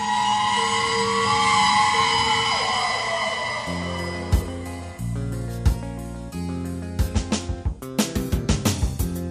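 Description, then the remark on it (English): A loud siren wails and then winds down in pitch, giving way to a series of sharp, rhythmic percussive hits over a low droning tone. “siren screaming.”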